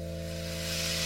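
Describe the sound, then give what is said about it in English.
A steady hiss like escaping air or a hissing hose, heard from about 20 feet behind a barn on a farm, growing slightly brighter and louder toward the end, over a constant low mechanical hum with no voices. “When I was about 20 feet away from the rear of the barn, I heard a noise, almost like escaping air or a hissing hose, I'm not too sure.”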